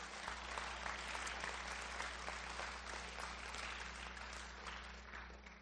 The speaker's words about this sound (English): Let's give Simon Peter a round of applause tonight.